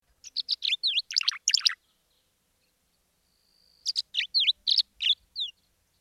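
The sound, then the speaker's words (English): Tree swallows twittering over a field at Broadmoor in April, in two bursts of quick, liquid chirps and gurgling notes, separated by a brief pause. The calls are clear, with no voices present. “Dark, iridescent blue above and white below, these small birds hawk for insects over the field, catching their prey in midair. Listen for their twittering calls.”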